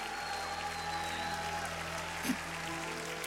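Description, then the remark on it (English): A church audience gives Jesus a standing ovation, a dense, steady wash of many hands clapping at even loudness, with sustained musical tones running underneath and one brief louder burst. “Would you give him a standing ovation and a shout of praise in the house of God?”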